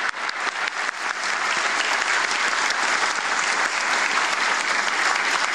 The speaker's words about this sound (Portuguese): Acabamos de visitar a planta, pedindo uma salva de palmas para todos vocês.